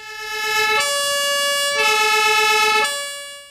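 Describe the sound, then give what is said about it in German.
The siren of an old ambulance, now converted into a bus, is tested before setting off. It blares loudly alone, switching back and forth between two tones about once a second for a few cycles before cutting off. “Bevor wir dann los sind, wurde dann auch noch einmal die Sirene ausprobiert.”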